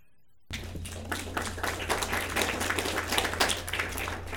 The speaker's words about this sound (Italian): Quando sentì i bambini battere le mani, Campanellino guarì.